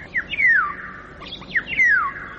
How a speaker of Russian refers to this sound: Птичьи голоса в городах пытаются пробиться к людям сквозь шум автомобилей и бывают слышны здесь совсем ранним утром.